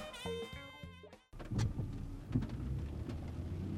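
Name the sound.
thunderstorm with rain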